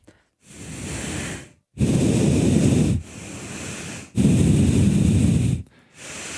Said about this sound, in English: Have you always exhaled out of your nose that loud? No. Well, now I'm just going to do it all the time.